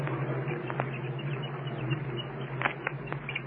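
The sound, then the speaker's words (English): Faint, brief high peeps of an unborn chick chirping inside its egg, picked up by an extra-sensitive microphone against the shell, come in scattered bursts, mostly toward the end, over a steady low hum and hiss, with a few soft taps of the chick pounding on the inside of its shell. No one speaks. “You can hear them chirping anyway inside of the egg.”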